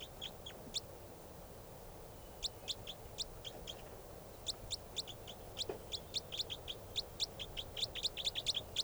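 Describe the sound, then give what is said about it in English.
A bird calls in quick series of sharp, high-pitched chirps, grouped in short bursts that grow more frequent toward the end, over a steady low background hiss with no talking. “That's the bird.”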